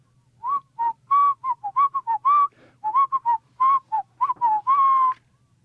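Someone whistles a lively, bouncy tune, a quick run of clear, short notes with brief gaps between phrases, over a faint low hum and with no talking.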